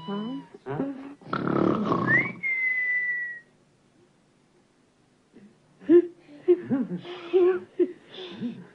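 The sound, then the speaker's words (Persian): A breathy, rasping snore gives way to one clear whistle, blown at the snorer to quiet them, that slides upward and holds for about a second. A pause of silence follows, then people talk. “من شنیدم هر کی خور رو پف کنه اگه واسش سوت بزنم ساکت میشه.”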